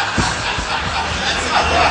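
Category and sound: crowd, audience members clapping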